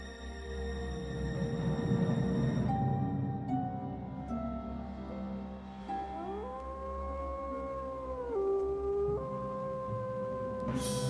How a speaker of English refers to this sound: The lone wolf cries.